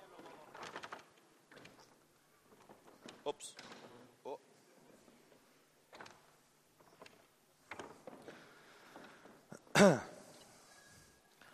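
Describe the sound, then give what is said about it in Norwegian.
A large door prop is rolled forward and scraped across a stage floor at a youth meeting in uneven bursts, with scattered clunks and one loud thump near the end. A voice briefly exclaims. “Så må vi se, jeg må bare få trille fram døra mi her i dag.”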